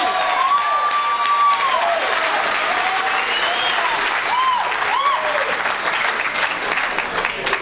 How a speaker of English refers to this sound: Thank you for inviting each and every one of us here to celebrate your first convention. Yay! Give them a real round of applause.